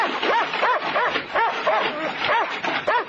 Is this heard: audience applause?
no